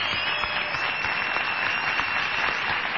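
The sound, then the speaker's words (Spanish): A theatre audience at the multiteatro on Calle Corrientes 1283, on a windy, sleety night, breaks into a sustained ovation for Patricio Barton, a dense, steady wash of many hands clapping that holds at an even, fairly loud level for the full three seconds, with no voices standing out. “Vamos a saludar inmediatamente con una ovación que él no olvidará jamás.”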